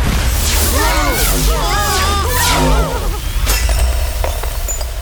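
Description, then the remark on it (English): A loud magical shattering blast as the key to the stars shatters and the pieces of the galactic armor blast off in different directions: sharp crackling bursts and whooshing debris, with warbling, swooping tones and voices crying out over a steady low rumble, then a few scattered pops as it settles. “The key to the stars! It shattered! The rest of the armor. All the pieces just blasted off into different directions!”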